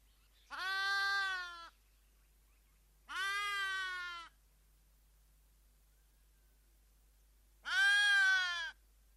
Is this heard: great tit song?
no